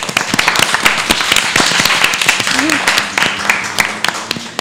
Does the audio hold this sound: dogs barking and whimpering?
no